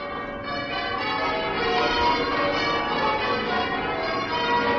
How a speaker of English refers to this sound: Now, westward across the beaches of Normandy, across the chop and rip of the Channel, the tide of jubilation sweeps to Britain. Westminster Abbey sounds her bells.